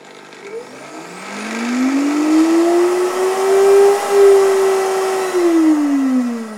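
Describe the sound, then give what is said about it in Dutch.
A blender motor spins up from low to a steady high whir, churning thick nuts that were soaked in water, making a cream cheese-like spread, for several seconds before the pitch starts to dip at the end, loud. “En dan kan je ze in de blender doen.”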